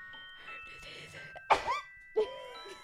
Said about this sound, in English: I think the weather changing made me sneeze all day.